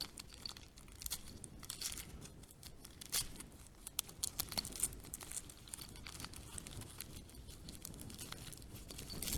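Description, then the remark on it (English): Crinkling and tearing of paper wrapping as a small, tightly wrapped package holding a tiny bell is pulled open: a steady stream of rustles, crunches and short rips with no talking. “This is wrapped far too well.”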